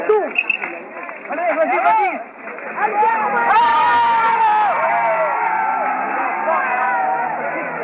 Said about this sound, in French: J'étais alors dans la cour où attendait la voiture cellulaire. Dehors, une foule d'au moins 2000 personnes grondait.